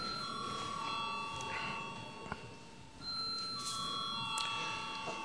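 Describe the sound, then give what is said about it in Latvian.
A parliament chamber bell rings steadily for several seconds to call a vote, a sustained electric tone that shifts pitch partway through, with faint room murmur and a brief click underneath. “Lūdzu zvanu.”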